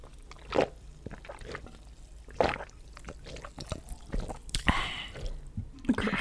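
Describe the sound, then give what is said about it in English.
People drinking water right up against the mic: wet sips, gulps and small slurping clicks, with a few louder swallows spaced irregularly over quiet, and no talking. “We should just start the podcast with just it fades in to us just drinking water.”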